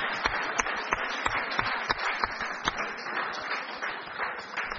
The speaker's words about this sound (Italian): Va bene, io direi che possiamo fare un bel applauso e salutare le 3 vincitrici.